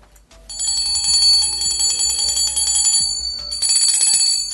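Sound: bell ringing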